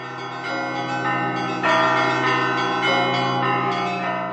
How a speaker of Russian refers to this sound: После 70 лет молчания сегодня ликующий колокольный звон плывет вновь над Торжком, зовя каждого из нас к вечной радости.